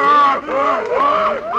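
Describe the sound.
Four seals bark angrily in a loud, overlapping chorus, with harsh honking calls that rise and fall in pitch and barely pause throughout.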